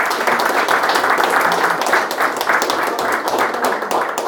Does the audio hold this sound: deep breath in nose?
no